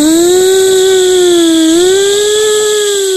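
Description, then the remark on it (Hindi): A student in a classroom imitates a flying airplane with a loud, steady droning hum, holding one pitch with a slight dip and rise partway through, lasting about three seconds without any talk. “तो हम सबको बताओ, हवाई जहाज कैसे उड़ता है?”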